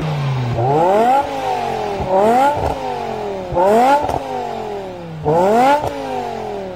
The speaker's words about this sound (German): Heute klingt sie für manche eher so, wie der Sound aus dem Auspuff eines neuen BMW M5. Und das hört sich dann ungefähr so an.